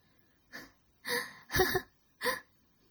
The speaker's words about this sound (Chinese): 虽然在大口大口的喘气，不过约定的那个就是那个哟，本小姐的赤足要奖励你了。